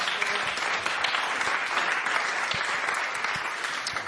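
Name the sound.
audience applause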